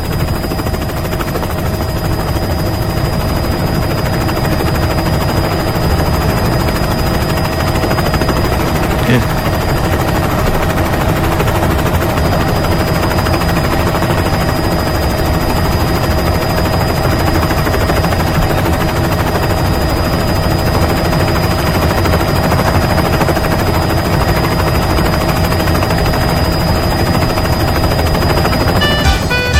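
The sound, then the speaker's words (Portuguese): A helicopter sound effect played to start a radio show drones steadily and loudly throughout, its rotor chop and engine hum forming a dense, continuous roar with faint rapid thudding underneath. “Vambora, vamos colocar o helicóptero do véi matar a saudade aí.”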